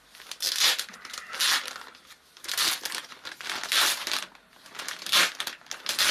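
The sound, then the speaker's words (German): Ripping and crinkling as a paper envelope is torn open by hand without scissors, several loud, scratchy bursts in quick succession with brief pauses between them and no talking. “Okay, das müsste man aufreißen können.”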